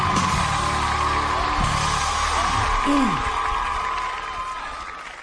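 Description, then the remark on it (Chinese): At a talent show, an audience claps steadily before a kuaiban performance, a dense sustained patter with a few scattered shouts and voices mixed in, then the applause gradually fades toward the end. “来，咱们掌声， 行， 有请。”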